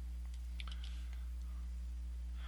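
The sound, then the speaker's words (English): A few soft, quick clicks from a pencil land close together near the start, faint against a steady low electrical hum that runs throughout. No one speaks. “I click this pencil.”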